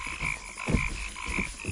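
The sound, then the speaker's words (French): A chorus of frogs croaks steadily, with a sustained high trilling band and repeated low pulsing croaks roughly every half second, moderately loud, with no voices. “Ces grenouilles me vexent l'esprit.”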